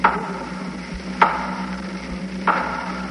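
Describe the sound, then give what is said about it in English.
Three slow, loud knocks on wood at the head of a bed, evenly spaced about a second and a quarter apart, each a sharp, hollow thud that quickly fades, with no voices. “Then I heard three slow, loud, distinct knocks at the head of my bed.”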